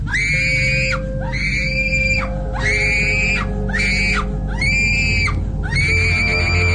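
A girl screams over and over in loud, piercing bursts, about six shrill cries in a steady rhythm with only brief breaths between them, close and intense against a low background rumble.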